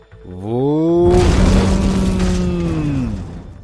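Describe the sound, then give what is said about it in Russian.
A rising, sustained droning tone swells into a loud, rumbling explosion burst of a hotel blowing up that holds on a single ringing note, then slowly fades out over a few seconds. “Раздался несильный взрыв, звучащий словно бы на одной всепроникающей ноте.”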